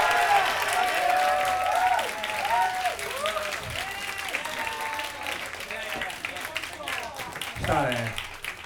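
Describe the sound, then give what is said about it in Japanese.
A crowd applauds steadily, a dense wash of clapping that holds fairly loud throughout, with whistling or cheering tones rising and falling over it. “…に大きな拍手をお願いします。”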